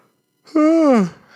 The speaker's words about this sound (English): Yawning again, but yeah.